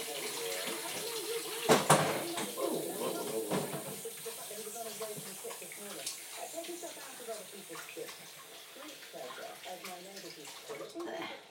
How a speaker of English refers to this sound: Now I need to wash them though because it's quite greasy. Being lamb, it would be, I suppose. Ooh. It's getting soaked. It slipped out of my hand.